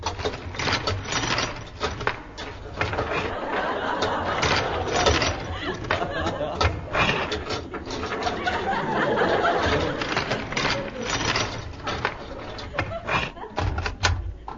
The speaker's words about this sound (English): Took a long time to open a door. Oh, the door's open.